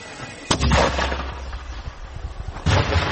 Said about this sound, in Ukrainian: Стріляє, да. Міномет пішов. Міномет пішов. Парні, будьте в укритті, працюю мінометом.